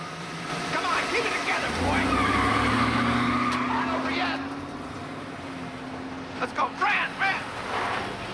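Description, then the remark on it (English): A car is started and its engine revs up, holds a steady growl, then cuts off abruptly with a brief tire skid as the car halts suddenly so a man can take his jacket from the hood. Muffled voices and light clatter sound underneath near the end. “Bobby and Pink climb into a car and Bobby starts it up. It has to halt suddenly so Jimmy can take his jacket from the hood.”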